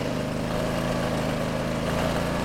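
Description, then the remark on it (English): A very small Chinese electric scooter, being ridden, runs with a steady droning hum and broad rushing noise throughout, holding an even level with no pauses and no voices. “I'm on a ridiculous Chinese scooter.”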